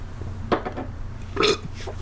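Gulping of a drink of Dos Equis beer, a quick run of three swallows followed by a louder, wetter gulp a moment later, with no talking.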